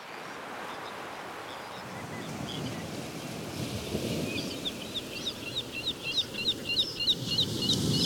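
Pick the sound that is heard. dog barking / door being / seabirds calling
seabirds calling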